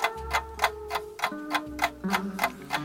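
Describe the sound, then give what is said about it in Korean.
A wristwatch ticks steadily, about three crisp clicks per second, as it is watched for one minute, over a low sustained hum of background music. No one speaks. “내 시계를 1분만 바라봐 줄 수 있겠니?”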